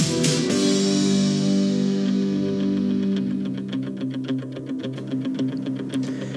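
A classic rock track tied to Rocky Balboa and the Rocky films, with heavy distorted electric guitar, opens on loud sustained chords, then settles into a tight, rhythmic chugging pattern with crisp percussive ticks, playing steadily with no voices.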